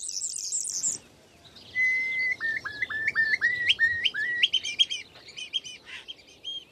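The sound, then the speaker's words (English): A pair of starlings chattering and calling from their nest in gaps in the stone walls of a roofless, ruined croft building on a small farm, a burst of buzzy high notes followed by a rising series of clear whistles layered over busy clicks, rattles and squeaky chirps, with no voices. “the building was in desperate ruin and had no roof, but these very substantial walls remained, and in the holes, in the gaps between the stonework in the building, was the nest of a starling.”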